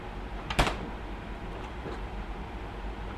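A refrigerator runs with a steady low hum and a soft airy hiss of air moving in front of it, interrupted once early on by a single sharp knock like a door or cupboard bump. No one speaks.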